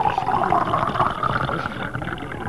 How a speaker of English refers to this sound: Watch up, pour some water right over you. Okay, ahead. Can we get this guy soaked?